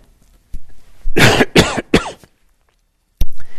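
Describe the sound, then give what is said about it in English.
Three harsh coughs in quick succession, each a broad burst of noise, followed after a pause by a short sharp click and a brief breathy rasp. “excuse me for a minute while I cough.”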